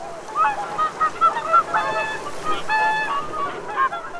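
Many whooper swans call and chatter at once, a dense flock of honking, trumpeting voices overlapping in quick bursts, with a soft wash of background noise.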